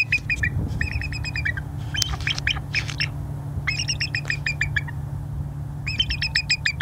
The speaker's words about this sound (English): It's a bald eagle. Sounds kind of weak, right?